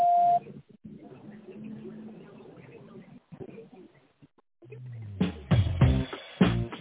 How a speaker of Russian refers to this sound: Здравствуйте. Вы позвонили в компанию «Просолк системы». Пожалуйста, после звукового сигнала в тоновом режиме наберите добавочный номер абонента или дождитесь ответа секретаря.